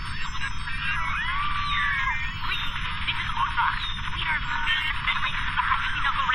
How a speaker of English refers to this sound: Lyman, halt. Go back to the beginning of the transmission, but this time remove the sounds of the panicking crowd.